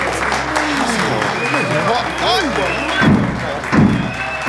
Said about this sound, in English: What's that noise? Someone is pounding on the door, sir.